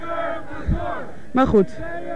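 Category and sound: crowd, protest crowd shouting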